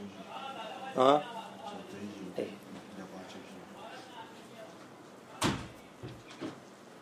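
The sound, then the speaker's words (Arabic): A door swings shut with a single solid thump partway through, over a murmur of voices where one voice briefly sounds earlier. “سد الباب شيخ على الظهر أقوى مني طلع الصوت.”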